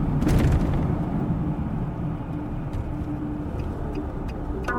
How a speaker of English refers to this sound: We drive back into the park. A moment later, we pull up next to my car, which looks very much not broken into.